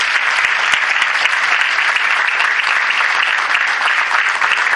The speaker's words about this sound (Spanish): Y creo que pues debemos de dar ese agradecimiento fuerte con un aplauso a los demás componentes que tenemos aquí presentes.